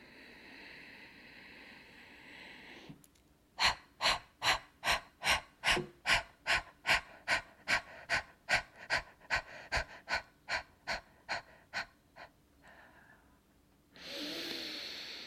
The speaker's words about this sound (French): Prends une bonne inspiration, une bonne expiration. On va réinspirer une fois et on va commencer.